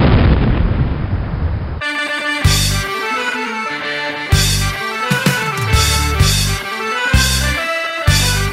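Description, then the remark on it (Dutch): Heavy booms of cannon fire punch through sustained orchestral music, coming in a loose, uneven series of loud blasts after a short rumbling, noisy opening. “Und jetzt kommen die Kanone.”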